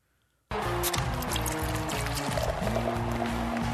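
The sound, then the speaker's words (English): Beer pours steadily into a glass after a brief moment of silence, a loud, continuous gush and gurgle whose tone shifts as the glass fills. “Have you ever noticed that when they open the beer and pour it, you hear the fizz?”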